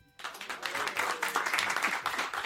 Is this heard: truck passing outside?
no